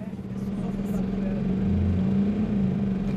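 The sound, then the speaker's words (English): A steady, low engine rumble fills the inside of a moving bus carrying torchbearers to join a torch relay, a continuous droning hum with a slight tonal whine, holding at a moderate, even level throughout. “We're now in the bus where Hayani and seven other torchbearers are being taken to join the torch relay”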